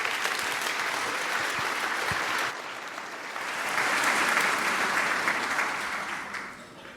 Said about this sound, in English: Please applaud.